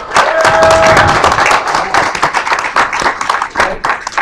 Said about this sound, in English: Can we get a round of applause for them? That'd be awesome.